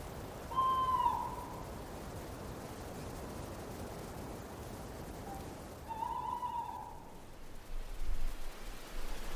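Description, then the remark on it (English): Tawny owls hoot twice first thing in the morning on leaving Drimmen, each call a wavering tone with harmonics, spaced several seconds apart over a steady hiss of wind or light rain. “Started off first thing this morning, leaving Drimmen, with the sound of tawny owls.”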